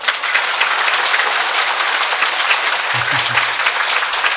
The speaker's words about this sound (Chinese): 越放松，越真诚，鼓掌的时候稍稍用点力气，你的疾病就出去了。